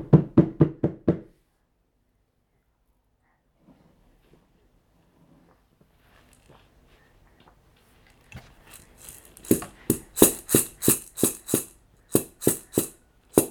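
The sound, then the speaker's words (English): A child bangs on a drum: a quick burst of five loud hits, a long quiet stretch, then a steady run of sharp, uneven bangs that grows louder. “Gonna bang on the drum instead.”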